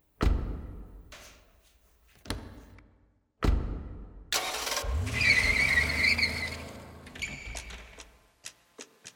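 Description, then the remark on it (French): A few loud thuds like car doors slamming, then an engine roars to life and revs hard as the car pulls away with a brief tire squeal, followed by a couple of sharp clicks. “Je t'ai dit de la fermer, monte dans la bagnole.”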